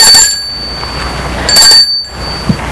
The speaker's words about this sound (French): L'homme va arrêter sa voiture devant une maison qui se trouve au boulevard des Belges. Il sort de voiture. Et sonne au portail.